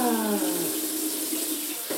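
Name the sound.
water running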